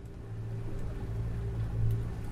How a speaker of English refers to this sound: steers a yellow and white boat full of eager tourists through the choppy water.